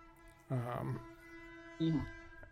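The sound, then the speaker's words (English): An ambulance siren holds a steady, faint wailing tone throughout, while two louder vocal bursts from a person rise over it partway through. “And I hear the ambulance, and I.”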